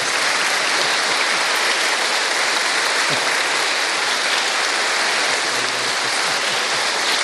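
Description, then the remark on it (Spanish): An audience at a church Mass applauds a visiting monsignor steadily for several seconds, a dense, even wash of many hands clapping at once with no voices heard over it, and it stays loud throughout. “Antes de que les presente, aunque no está permitido en la misa dar aplausos, pienso que le podemos dar un aplauso a monseñor por habernos visitado.”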